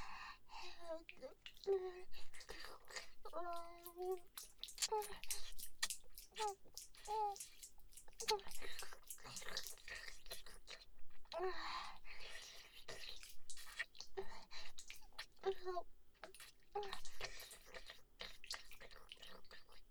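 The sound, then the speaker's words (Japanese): Soft, wet mouth sounds: gentle chewing motions made without the teeth touching, with squishy smacks and small tongue flicks and clicks, repeating irregularly under and between quiet whispering. “歯を当てないようにもぐもぐして、君の清掃を舌でコリって弾いちゃうの。”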